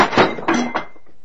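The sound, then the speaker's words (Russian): A thrown plate crashes down and clatters, a few sharp ceramic impacts in quick succession ringing briefly before fading out. Loud, with no voices over it. “Еще одно слово, и следующая тарелка полетит вам в голову.”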